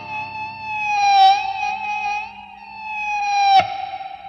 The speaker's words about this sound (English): Sometimes, you may need to glide the ebow back and forth a little as you press to get the energy slide started. The resulting high-pitched scream can be slid around by gliding the ebow to and from the pickup, which also changes the volume.